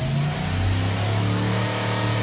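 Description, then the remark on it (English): A car engine, rebuilt and tuned, revs, its deep throaty rumble rising and holding in a strong steady drone, loud and continuous with no voices over it. “Or after a visit to advanced engine dynamics.”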